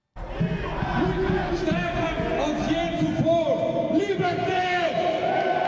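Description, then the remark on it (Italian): A tense street protest crowd in a street in San Gallo, many voices shouting and chanting over one another in a loud, continuous din, with sharp rising yells cutting through the dense babble. “Oggi ci sono stati anche momenti di tensione in strada San Gallo, come ci raccontano i suoni sempre raccolti”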